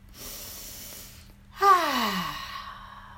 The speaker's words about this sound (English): All right, and now let's take our arms and raise our arms up as if we're trying to climb a ladder in the sky, and we're just breathing in through our nose and out through our mouth.